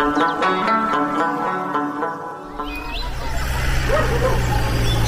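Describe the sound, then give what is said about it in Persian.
A dog barks repeatedly over the first half, sharp yelps landing in a quick irregular rhythm against a tonal background, before giving way to a louder, rushing wash of noise. “خیر خدایا من سگو سخت میترسم، میخو طرف با بوده رئیس.”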